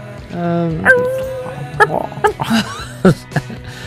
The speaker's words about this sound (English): No, it's a dog.